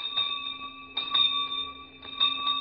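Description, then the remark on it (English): A school bell rings with a bright, sustained metallic tone, struck again in clusters about once a second so the ringing swells and lingers, moderately loud with no voices. “Yes, the good old school bell.”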